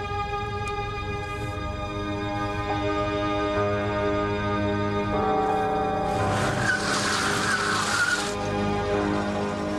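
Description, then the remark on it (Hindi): A car engine drones steadily, then tires skid loudly for about two seconds near the end as the car nearly collides with an oncoming truck, a harsh screeching burst over the running motor. No one speaks. “कुछ नहीं जनाब, मैं ड्राइव कर रही थी कि देखा सामने से एक ट्रक मेरी तरफ आ रहा है, हमारा एक्सीडेंट होते होते बचा।”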